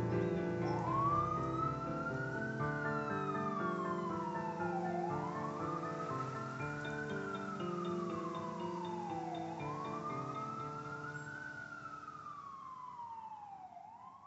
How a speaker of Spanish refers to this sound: Ya se acaba de ir la ambulancia que vino a buscar Oligario.